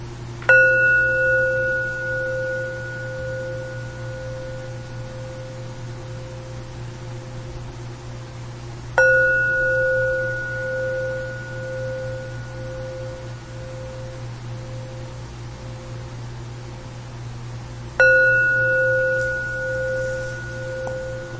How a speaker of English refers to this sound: So before we do a little practicing with bells, I want to say about each of these bells, you know, so part of what the bell the Doan rings, this is bell is actually called a case, which is spelled K-E-S-U, and the U is silent.